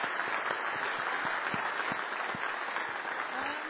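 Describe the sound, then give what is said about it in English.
An audience of parents and families at a school event claps steadily for a few seconds, a dense, even wash of many hands with sharp individual claps standing out, sustained at a constant level without fading. “Can we give them another clap?”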